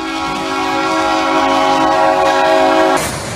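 A train horn blares in one long, loud, steady blast for about three seconds, then cuts off, leaving a brief rumbling rail noise underneath.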